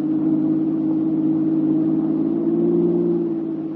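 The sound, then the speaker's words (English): A car engine roars steadily and loudly, its low droning pitch climbing slightly near the end as it accelerates past another car, with no voices. “Your car roars past Mary's car within a few miles, and you leave her behind.”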